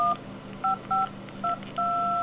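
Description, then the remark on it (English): Touch-tone dialing beeps from a phone speaker, the phone set to play back its dialing tones through the speaker as a tone dialer: four short dual-tone blips at an uneven pace, then a fifth tone held steadily, over a faint low hum with no talking. “Well, you got yourself a new tone dialer, because you can play back those tones, because you can set your phone to play back those tones continuously through the speaker.”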